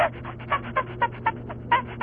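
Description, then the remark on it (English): A person imitating a chimpanzee with a quick run of breathy, panting hoots, about eight rhythmic bursts in two seconds that wobble up and down in pitch over a low steady hum. “You sounded just like a monkey.”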